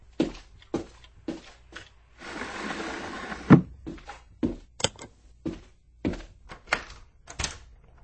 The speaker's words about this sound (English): I'm shutting the door to the corridor.